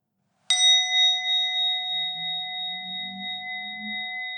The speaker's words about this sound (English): after we've been doing that for about 10 minutes, I'll ring the bell outside and inside so that you don't have to stress as long as you're in earshot of the studio. When you hear the bell, gently in your own time, come back and sit again.